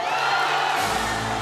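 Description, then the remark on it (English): A crowd cheers and roars in a loud, continuous wash of noise, with a deeper rumble joining partway through as the excitement keeps building, after the International Olympic Committee announces Beijing as host city of the 2022 Olympic Winter Games. “And the crowd goes wild.”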